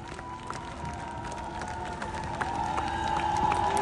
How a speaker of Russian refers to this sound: Искупайте его овации. Это будет премьера на главной сцене страны.